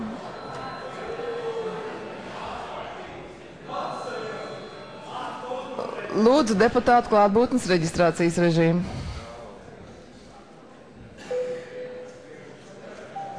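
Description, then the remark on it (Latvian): A parliament chamber bell rings loudly for a few seconds in a rapid, continuous trill, with a man speaking calmly before and after it. “Lūdzu zvanu.”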